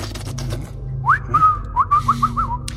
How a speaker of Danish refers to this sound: Du har en smuk fløjt, altså. Ja, det er mine kinder, ser du.